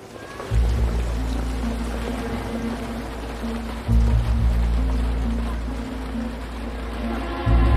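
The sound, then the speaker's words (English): Steady rain hisses continuously at night in Wales beneath a loud, low droning rumble that swells in abruptly after a moment of quiet and shifts a couple of times. No one speaks. “As audience members emerge into the darkness and the Welsh rain, Tom Jenkins peers through the windscreen of his car parked across the street.”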